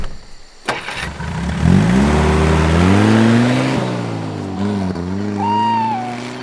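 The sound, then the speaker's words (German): A car engine starts with a click, then revs up and pulls away, the pitch climbing steadily as it accelerates before dropping into a smoother drive, with a faint high whine near the end. “Während ihr auf dem Rücksitz geschnarcht habt, bin ich ewig lang Autobahn gefahren.”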